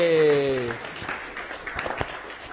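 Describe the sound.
Audience applause: a steady crackle of many hands clapping for a couple of seconds, with a brief sustained voice tone at the very start before the clapping takes over.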